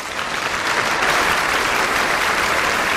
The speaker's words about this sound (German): Rief der Papst unter dem Applaus der Menschen.